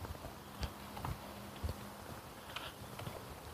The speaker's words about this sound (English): Yep, it is raining.